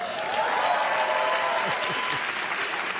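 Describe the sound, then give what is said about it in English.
Sustained applause from a large audience at a political speech, a dense, steady wash of clapping at fairly loud level, with faint voices and a few cheers mixed into the crowd noise. “You don't have to work that hard to get them to applaud.”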